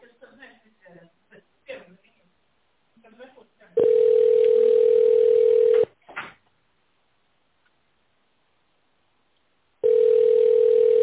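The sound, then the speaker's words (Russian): A recorded voice greets the caller in Russian and asks to dial an employee's extension in tone mode or wait for an answer, then a steady, mid-pitched telephone ringback tone sounds in long, even bursts of about two seconds separated by several seconds of silence, on a call to the company Kapital. “Если вы знаете внутренний номер сотрудника, наберите его в тоновом режиме или дождитесь ответа.”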